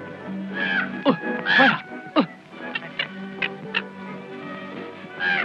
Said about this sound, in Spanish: No asusto ni a los cuervos. Vienen de muy lejos solo para comer en mi campo y se ríen en mis mismas narices.